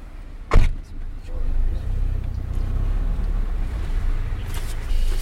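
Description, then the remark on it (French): Steady low engine rumble and road noise from inside a moving car, with a sharp click or thump near the start and a brief whir of a window or mechanism later on. “Sur la route, dans la voiture”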